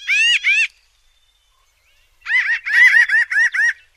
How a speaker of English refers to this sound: This little bird is part of the crow family, and it's currently being petitioned for listing under the Endangered Species Act. Pinyon jays are smart, social birds, and their calls sound like laughing in the woods.